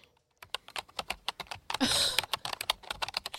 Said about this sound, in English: Is that a typewriter? No, I'm actually, I've upgraded to a computer. So I am using like a computer now.